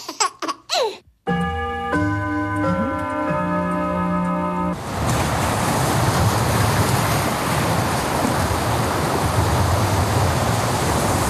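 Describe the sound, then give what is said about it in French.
Steady, full-bodied surf roars in, ocean waves washing continuously onto the shore for several seconds, preceded by a brief sustained tonal passage and a few sharp sounds at the start. “Je crois qu'on aime tous le bruit des vagues, non ?”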